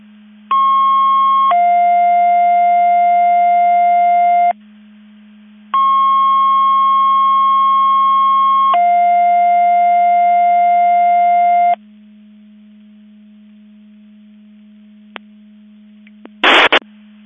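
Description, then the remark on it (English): Two-tone radio dispatch alert from CECOM, sounded for the 10:07 test of MABUS Division 5 (Mutual Aid Box Alarm) alerting receivers in McHenry County, played twice: a higher steady tone stepping down to a lower one, each pair lasting several seconds, loud and clear over a constant low hum, ending with a short burst of static. “CECOM testing MABUS Division 5, Mutual Aid Box Alarm Alerting Receivers for the 1003 test.”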